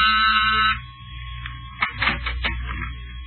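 door buzzer

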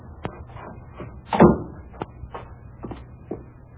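cellar door

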